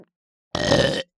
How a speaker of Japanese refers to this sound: うわ、いや、またゲップ出ちゃう。